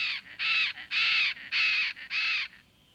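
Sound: tropical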